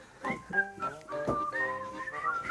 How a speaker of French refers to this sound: Toujours pas ça à siffler. J'arrive pas à siffler avec mes lunettes.